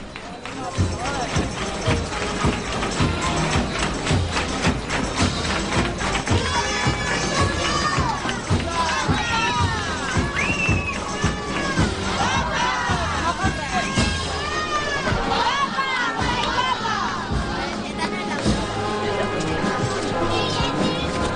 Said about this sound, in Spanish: justo en esta parte, en vez de los típicos cascabeles, escuchamos las palmas por parte de la banda al compás de la marcha.